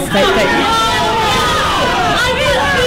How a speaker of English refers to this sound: However, when it came time for Councilwoman Amanda Fritz to cast her vote, the crowd expressed its displeasure loudly.